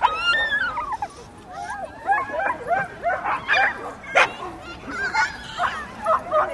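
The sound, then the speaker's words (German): Several dogs of many different breeds bark and yip in quick, overlapping bursts at Grunewaldsee, a lake where people bring their dogs, some high and whiny, steady throughout, with a busy outdoor background and a faint murmur of people. “Weil sie haben ja hier 1000 verschiedene Hunderassen und Hunde sowieso und die können dann sich richtig hier sozialisieren und unterordnen und dann, ja, es ist stressig auch.”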